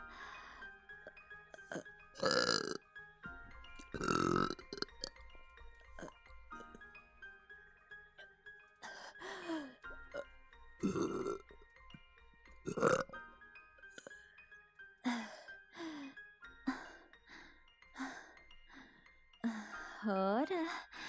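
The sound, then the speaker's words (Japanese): A woman lets out a series of loud burps, some long and drawn-out, spaced irregularly with breathy pauses and soft sighs between them, with a faint steady tone in the background. “お姉ちゃんのゲップだよ。”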